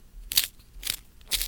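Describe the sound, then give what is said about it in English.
A pencil being sharpened in a sharpener: three short, gritty scraping crunches in a steady rhythm, fairly quiet, with no one talking. “So, where is my pencil sharpener?”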